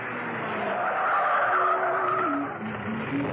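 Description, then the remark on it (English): A car pulls up and parks outside a home, its engine whining and shifting pitch as the tyres scrub and skid briefly to a stop. No one speaks. “She was in a carefree mood and hummed quite cheerfully as she parked the car outside Steed's home.”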